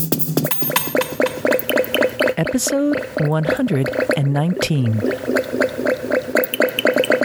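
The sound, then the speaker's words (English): Liquid glugs and bubbles steadily as sweet cider, fresh from the cider mill, is poured into a glass, its gurgling pitch sliding as the glass fills, with a voice briefly speaking over it. “I just poured myself a glass of sweet cider, fresh from the cider mill.”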